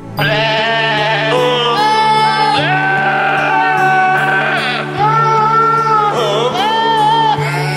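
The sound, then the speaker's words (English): Swedish goats' bleats tuned into the melody of the Christmas carol Silent Night, one wavering bleat after another, loud over a steady instrumental backing that runs throughout. “Here's a version of Swedish Goats. I kid you not.”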